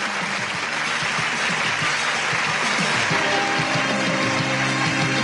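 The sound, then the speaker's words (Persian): Sustained applause from a large audience at the unveiling of a painting, a dense steady clatter of many hands clapping at once, loud and continuous throughout with faint tonal background underneath. “دل گفت استاد سمسارزاده نگارشون رو نمایی شد و آنچه می شنوید صدای تشویق هزار هست.”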